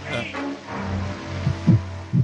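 heartbeat sound effect

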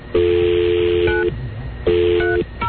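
telephone keypad dialing tones

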